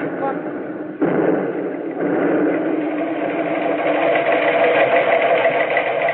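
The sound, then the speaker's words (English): A steady, dense drone of British and American bomber aircraft engines fills the sound, jumping up in strength after a moment and then swelling gradually louder and brighter toward the end. “The big bombers are coming back again.”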